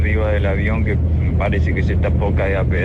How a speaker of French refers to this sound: Là je suis dans l'avion et on dirait qu'il est sur le point de tomber en morceaux.